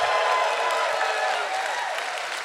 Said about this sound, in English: They are applauding you for being alive, sir!